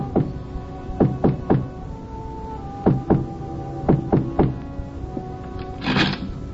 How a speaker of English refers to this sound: And then we came to a door, and Eileen knocked.